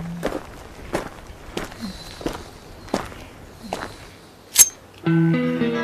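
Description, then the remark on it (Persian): Heavy footsteps thud at a steady walking pace, about six strides drawing closer, followed by a sharp metallic click and a sustained tonal hum at the end. “صدای پای ناجیه.”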